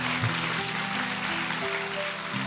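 An audience claps steadily for a guest teacher after his talk, a dense, even wash of many hands that holds at a constant level for a couple of seconds without any voices over it.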